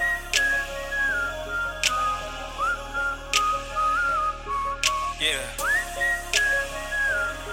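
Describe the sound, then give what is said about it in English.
A person whistles a wandering, gliding melody at moderate volume, accompanied by sharp, regular clicks that tick out a steady beat behind the tune. “Thinking about her daily while I whistle down the street like.”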